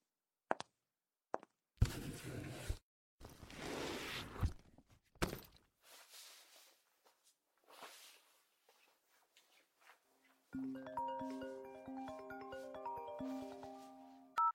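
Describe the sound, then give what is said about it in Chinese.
A few scattered footsteps and thumps are followed by a phone ringing with an incoming call, a melodic ringtone playing as a steady, fairly loud looping tune for the last several seconds. “喂，亲爱的，你怎么有空打电话过来呀？”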